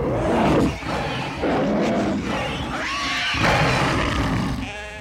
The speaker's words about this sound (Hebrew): מה זה מתקרב? זה הזאב, תראה איזה גודל. בוא נברח מפה מהר.